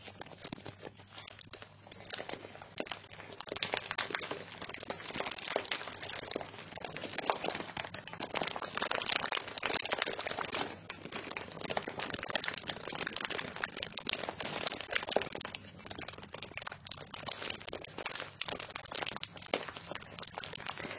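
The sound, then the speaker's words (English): Continuous crinkling and crunching of handled material, a dense stream of crackly rustles that swells and eases over about twenty seconds, with no voices. “Has a nice amount of crunch and crinkle.”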